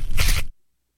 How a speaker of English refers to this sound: Okay, that was decapitation, obviously.